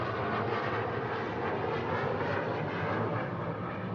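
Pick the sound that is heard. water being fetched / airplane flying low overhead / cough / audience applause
airplane flying low overhead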